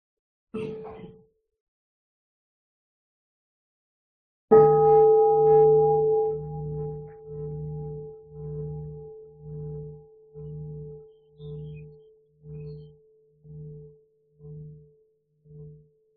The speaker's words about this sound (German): Ja, dann hören wir mal eine Glocke. Ja.